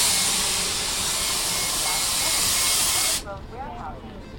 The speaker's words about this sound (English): It's one of several buses shuttling workers to and from warehouses across the region. Today he feels lucky. The bus shows up right on time.